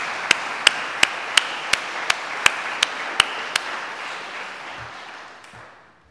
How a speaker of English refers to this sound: I was not sure if either of them would be here today, but I wanted to read their names for all of you and also to extend our appreciation with applause, even though they're not here.